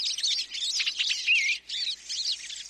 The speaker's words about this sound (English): The sights and sounds of birds visiting a feeder in the backyard or a local park